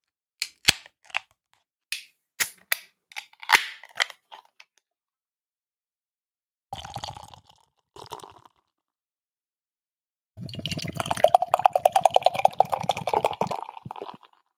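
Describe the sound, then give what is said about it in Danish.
A can of Stepping Stone cold IPA is opened by its ring pull: a run of sharp metallic clicks and snaps, then short hissing bursts, followed by several seconds of loud, crackling fizz. No one speaks. “Min var ikke voldsom, sådan, altså jeg fik lidt en lille smule skum sådan på fingerspidsen, hvordan jeg tog og åbnede i ringen der”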